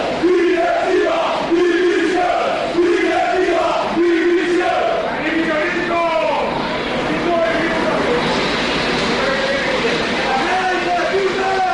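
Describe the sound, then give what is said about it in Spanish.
A large stadium crowd of football fans chants and shouts insults at the club directors after a 0-2 result, in loud, rhythmic repeated phrases, the voices merging into a continuous roar for the whole stretch. “Bueno, pues ayer hubo insultos, hubo gritos contra la directiva que yo no había escuchado nunca.”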